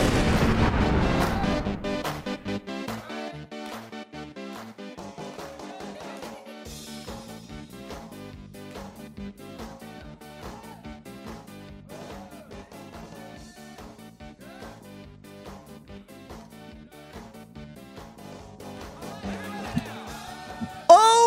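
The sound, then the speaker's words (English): A brassy, upbeat theme tune, played after a Green Bay Packers win over the Giants, with a heavy bass drum banging out a steady beat, loud, opening with a booming crash and building again near the end. “Had we missed this tune? Been missing the bang on the drum.”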